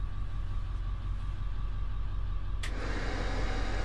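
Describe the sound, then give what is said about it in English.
Powerful exhaust fans run with a loud, steady mechanical roar and a faint whining hum; partway through, a sharp burst makes the rushing noise grow harsher and fuller. No one speaks. “And I've got some pretty powerful exhaust fans in here that I'm not going to turn on because they're way too loud.”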